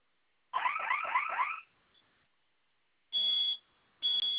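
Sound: security alarm sounding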